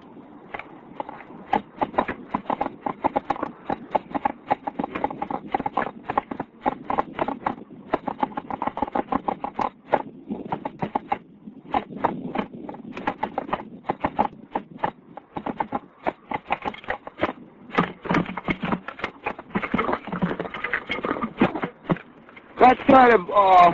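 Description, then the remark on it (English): A jazz drum solo on a full kit, with busy, rapid strokes and fills that keep up a loose swinging pulse for over twenty seconds, played fairly loud with no one talking. “Do it just a drum solo.”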